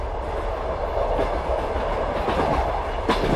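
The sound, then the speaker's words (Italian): An old, rickety Trenitalia fast regional train rumbles along the rails with a steady, continuous roar, faint rhythmic clatter and a brief sharper burst near the end. “È il rumore di un treno regionale veloce di Trenitalia.”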